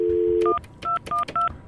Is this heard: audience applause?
no